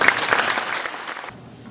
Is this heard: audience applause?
yes